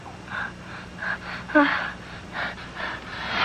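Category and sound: human body sound, sneeze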